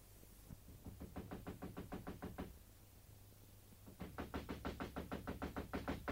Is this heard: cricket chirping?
no